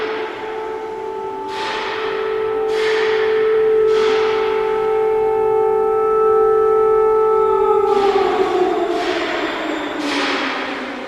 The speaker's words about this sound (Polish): A syrenę fabryczną pan pamięta? Oczywiście, oczywiście. To było od siódmej chyba praca była. Potem było na śniadanie syrena, potem na fajrant tak zwany była syrena. I syrena tutaj regulowała życie w okolicy.